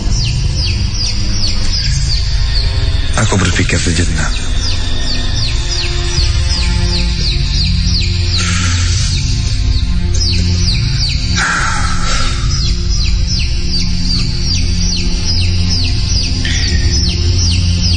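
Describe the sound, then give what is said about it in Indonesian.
Baby chicks peep continuously in rapid, high-pitched bursts that repeat throughout, over a steady low rumble, with a brief spoken line from a voice. Heard at 2 a.m., very close, apparently just outside the door of a boarding-house room. “jam 2 pagi, aku terbangun ketika mendengar ada suara anak ayam. Suaranya terdengar sangat dekat, sepertinya berada di depan pintu kosan.”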